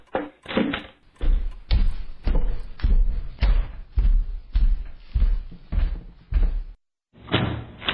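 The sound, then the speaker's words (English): A run of heavy, evenly spaced thuds and clatter, followed by a brief pause and a final door sound as the door swings open for a visitor. No one speaks. “Oh, there's someone at the door. Go and answer it”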